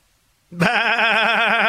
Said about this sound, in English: That's what is that? What a goat or is that a sheep? I think that works for a goat.